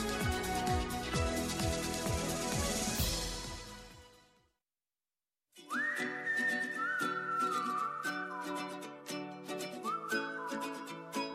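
A clear whistled melody with gliding notes rises over a busy instrumental backing track, following a short burst of loud music and a brief silence.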